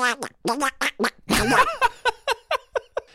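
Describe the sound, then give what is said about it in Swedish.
A voice imitates a cartoon duck, rattling off a run of raspy, nasal quacking syllables in quick, uneven bursts, with a longer garbled stretch midway. “Hur är du på att imitera förresten? Du har en Kalle Anka som du var inne på några”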